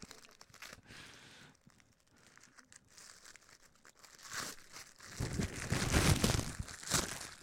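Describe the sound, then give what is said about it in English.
Wrapping paper being crinkled and crumpled, with busy irregular rustling that grows louder and denser in the second half, including a few tearing rips. “It's just wrapping paper in there.”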